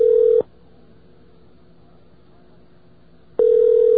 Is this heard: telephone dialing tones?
yes